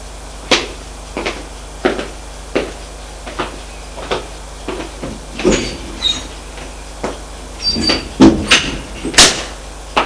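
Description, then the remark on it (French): A steady series of sharp, distinct knocks on a wooden door, followed by louder clunks and a creaking door being opened near the end; no one speaks. “Martin frappa la porte pour prévenir que le dîner est prêt.”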